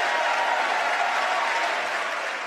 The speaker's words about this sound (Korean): 새해 국정연설은 이처럼 대통령의 발언을 찬성하는 의원들의 박수로 연설이 중단되는 경우가 많은데요. 물론 대통령의 연설 내용에 동의하지 않는 의원들도 있겠죠. 그럴 경우 박수를 치지 않는 것으로 의사표시를 하기도 합니다.